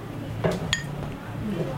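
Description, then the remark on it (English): Two quick glassy clinks, the second ringing briefly with a bright tone, over a low steady background hum and faint murmur, as beer glasses are handled and filled by a man pouring beer while answering questions in practice for the Master Cicerone exam. “He's pouring beer and he's trying to talk and he's answering a tough question.”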